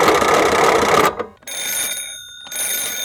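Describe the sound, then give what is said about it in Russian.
A telephone bell rings loudly and harshly for about a second, then stops. Steady electronic phone-line tones follow in two bursts. No one speaks. “понадобилось срочно позвонить своему приятелю. Для этого ему и пришлось сначала изобрести телефон.”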